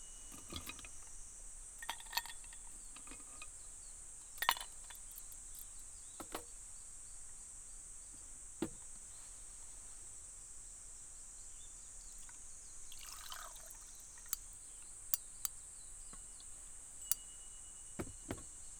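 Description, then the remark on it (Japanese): Ice cubes crackle and pop in freshly poured, ice-cold barley tea, sharp little snaps scattered irregularly over a steady high fizzing hiss, quiet with no voices. “この氷が割れる音、聞いてて心地いいよね。”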